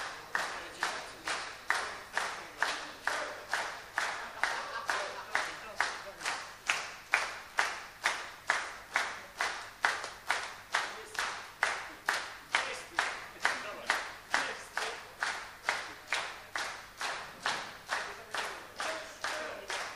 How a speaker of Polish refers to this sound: Józek mówi, że za cicho klaszczecie, nie wyjdzie.